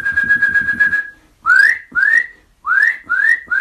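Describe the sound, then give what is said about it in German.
A Eurasian nuthatch gives loud, clear whistles: first one steady sustained note, then five short, upward-sliding whistles repeated in quick succession, with no talking. “Ja, und die Kleiber packe ich da jetzt mit rein. Mit ihren lauten Pfeiftönen sind die so auffällig und über so weite große Distanzen zu hören.”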